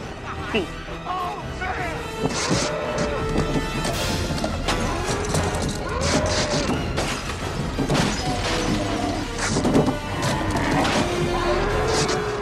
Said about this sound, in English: The deer's tearing up their car. No way that just happened. My car is completely destroyed.